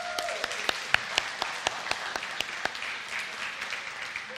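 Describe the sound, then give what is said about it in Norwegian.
An audience applauds with a dense wash of hand claps, a few sharp individual claps standing out in an irregular rhythm, tapering slightly toward the end. The applause is an extra round for a family who attended every Sunday evening event this summer. “Jeg tror vi gir dem en ekstra applaus.”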